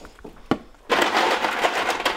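A couple of small clinks, then a loud, sustained clatter of ordinary freezer ice cubes tumbling into a glass for a cocktail, continuous for over a second with no talking.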